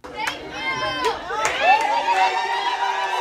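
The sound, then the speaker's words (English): A crowd cheering loudly in Denton, Texas, as the city becomes the first in Texas to ban fracking within city limits, with many overlapping voices shouting and whooping. A few sharper bursts rise out of the steady roar, which keeps going for the whole few seconds. “When the crowd finally quieted down, leaders of Frack Free Denton, the group that spearheaded the campaign to prohibit hydraulic fracturing, were still wide-eyed, jaws dropping.”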